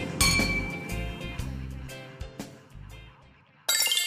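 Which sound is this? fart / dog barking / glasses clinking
glasses clinking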